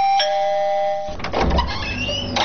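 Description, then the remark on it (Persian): An electronic doorbell at a house gate, pressed by a visitor in the morning, rings with bright sustained tones, then a second chime sequence follows over a busier, slightly noisy background; no one speaks. “صبح پشت کوچه ما آمدی و طرف از زنگ دروازه را فشار میتی.”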